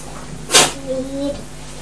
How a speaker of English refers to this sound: Is that a cough or a sneeze? It's sneeze. Was it? Yeah.